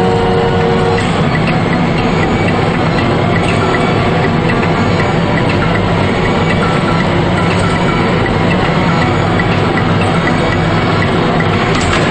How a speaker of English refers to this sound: The elevator doors close, and they ride up slowly, staring across the car at one another without saying anything.